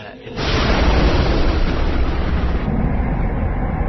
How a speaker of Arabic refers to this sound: كان سعيد مذهولا تماما من مشهد انفجار البحر وتحول أمواجه إلى نار ودخان